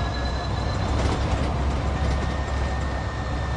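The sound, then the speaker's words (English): A small electric vehicle that tops out at about 24 drives around residential streets, its engine whirring steadily: a constant low rumble layered with a thin, high-pitched electric whine that holds even throughout, with no voices. “Now, I hear that whirring sound of the engine, and I can't help wondering, should I hit a 5-iron or a 4-iron on this next shot?”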